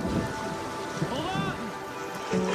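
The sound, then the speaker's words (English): Heavy rain from Hurricane Harvey pours down on Houston, Texas, in a steady, dense hiss that fills the whole clip, with indistinct voices calling out faintly beneath the downpour. “The city of Houston has been impacted by an inordinate amount of rain.”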